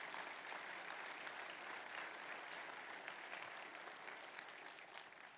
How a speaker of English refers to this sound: May God bless our veterans. How about another nice round of applause for the veterans?